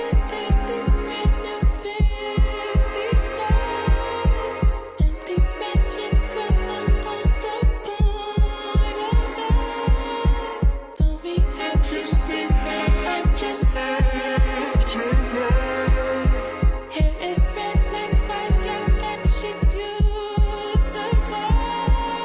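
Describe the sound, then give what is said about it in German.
A deep electronic kick drum thumps on every beat in a steady four-on-the-floor pulse, loud and up front beneath a dense, sustained synth texture, with no voices. “Dazu kommt eine Elektro-Bass-Drum mit Four on the Floor”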